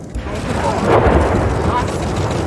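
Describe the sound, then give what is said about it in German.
A bomb is defused by controlled detonation after being pulled into the Main river: a sudden, deep, muffled blast swells into a loud, sustained roaring rumble that fills the whole clip without fading. “Um die Bombe zu entschärfen, wurde sie in den Main gezogen und dort kontrolliert gesprengt.”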